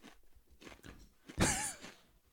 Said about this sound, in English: I'm gonna just chew my kettle chip in defiance.